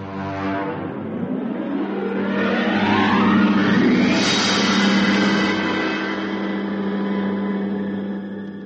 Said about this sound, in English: The little bus clattered to a stop in front of the sheriff's office of Martinville, and two weary and angry men climbed out.